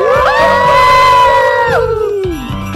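A group of librarian radio broadcasters from Ràdio Maconda, the radio of the Barcelona libraries, howls together in long, loud sustained cries that hold steady, then slide downward and trail off, shouting and wailing in unison.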